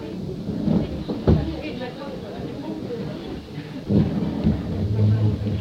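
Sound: door being closed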